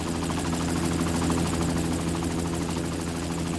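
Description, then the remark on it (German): A helicopter takes off, rising and flying a few metres sideways, its engine and rotors roaring in a dense, continuous mechanical drone with a rhythmic low thrum and no voices. “Der Helikopter stieg auf, flog ein paar Meter zur Seite.”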